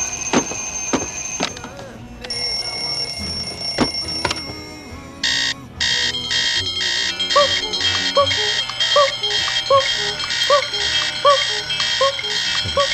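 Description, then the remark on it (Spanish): A shrill alarm clock rings loudly, starting with sustained electronic tones and then settling into rapid, evenly repeating bursts that continue to the end, with faint vocal sounds underneath. “Sí, total, cuando te has sonado el despertador, has intentado alargarlo todo lo posible.”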